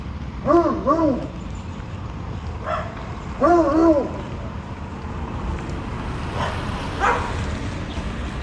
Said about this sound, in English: Dogs talking to each other.